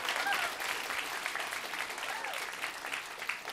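A crowd applauds steadily, a dense, continuous patter of many hands clapping at an even level for a few seconds, with a faint murmur of voices and a whoop rising through it.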